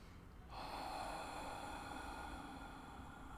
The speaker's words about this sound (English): Let the body settle down more deeply into the chair as you experience that nice, long, slow exhale. As long as you can. And then breathe normally. Normal breathing after a very deep inhale and long, slow, easy exhale.